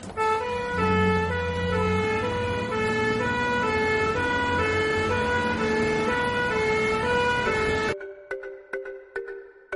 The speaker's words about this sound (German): Beide steigen ins Auto und fahren mit Blaulicht und Sirene zum Netherfeld Einkaufszentrum.